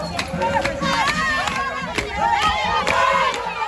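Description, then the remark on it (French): A loud anti-government protest crowd in Gonaïves, northern Haiti, demanding the resignation of Prime Minister Ariel Henry, chants and shouts slogans together, including anti-American ones, many overlapping voices rising and falling in a steady roar, with a few sharp claps or bangs breaking through. “où l'on a entendu hier des slogans anti-américains”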